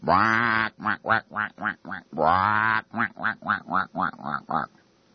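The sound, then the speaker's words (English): Geese honk loudly: a long drawn-out honk breaks into a quick run of shorter honks, then the pattern repeats and trails off, with no talking. “So while he was speaking, hundreds of demonstrators marched under the watchful eye of riot-equipped police while Bush spoke inside to these 1,800 geese who sat there.”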